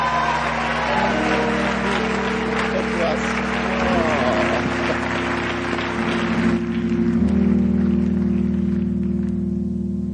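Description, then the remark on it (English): An audience claps steadily to welcome a speaker invited up to give a greeting, a dense rain-like patter of many hands that keeps going for the whole stretch, with a low steady hum running underneath. “Oh, keep clapping to encourage.”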